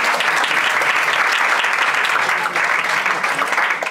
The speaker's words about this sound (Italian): Dunque io vorrei cominciare facendovi fare un applauso ai partigiani. Un applauso.